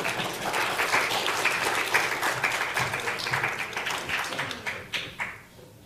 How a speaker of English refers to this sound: And now I'd like to have the concluding act to the Borrego Springs Performing Arts, and a big round of applause.